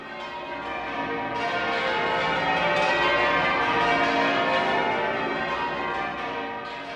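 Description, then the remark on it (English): Church bells ring a continuous celebratory peal as part of a celebratory ring across the British Isles organised by the Central Council of Church Bell Ringers, many overlapping tones clanging together in a dense, steady wash of sound that stays loud and full throughout, with no voices. “out as part of a celebratory ring taking place right across the British Isles at more or less the same time”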